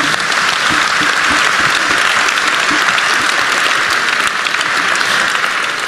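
Sustained audience applause at a presentation of the Institut de France and the Académie des sciences, saluting a historical overview. A dense, steady patter of many hands clapping at an even loudness for several seconds, with no voices standing out.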